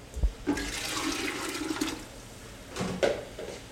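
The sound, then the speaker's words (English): Water and white distilled vinegar for a pickling solution pour steadily into a pot, a rushing, splashing stream lasting a couple of seconds, bracketed by a soft thump at the start and a light clunk near the end. “So we take white distilled vinegar, and we're gonna do, let's see, so first sugar, 4 cups of sugar.”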